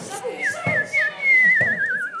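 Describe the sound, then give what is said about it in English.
A person whistles an imitation of a bird call, with high, sliding notes that end in a quick warbling trill. No one talks over it. “you will be aware that I can do a pretty darn good bird call.”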